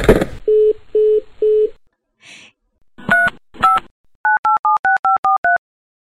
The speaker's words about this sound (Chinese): 接电话吧，接电话吧。